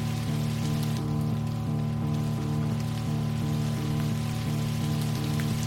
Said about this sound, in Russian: Дождь лил всю ночь.